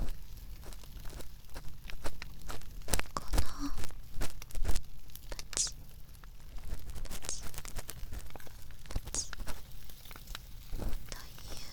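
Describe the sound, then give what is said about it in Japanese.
A crackling fireplace: dense, irregular pops and snaps scattered over a steady low rustle, with a few sharper, louder cracks standing out from the continuous soft hiss. “私、この暖炉の音って癒し効果があるなと感じます。”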